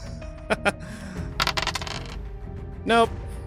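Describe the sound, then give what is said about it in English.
Dice clatter across a table for a dexterity roll that lands on 17: two sharp clicks, then a quick rattling tumble that settles after about half a second, followed by a brief vocal sound and soft room noise. “One last dex roll just for this entire plan to work.”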